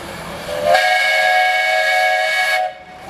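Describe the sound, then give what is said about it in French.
A 1903 steam tractor, brought over from America, blows its whistle at Grandfontaine: one loud, steady blast lasting about two seconds, with a rush of steam hissing just before it starts and then cutting off abruptly. No one speaks. “Et cette année, on va inaugurer une pièce tout à fait rare, une pièce qu'on a fait venir d'Amérique, un tracteur à vapeur.”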